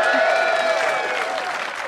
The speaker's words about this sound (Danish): Ja, skal vi have et bifald til?